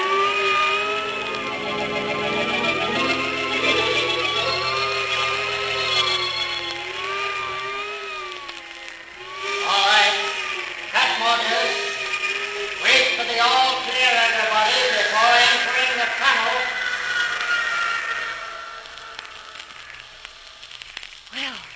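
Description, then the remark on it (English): A test plane buffeted by high-speed air: a steady mechanical roar with shrill, wavering tones that rise and fall, broken by harsh gusty bursts in the middle before easing off toward the end. “I was beginning to feel sorry for that poor plane being battered that way.”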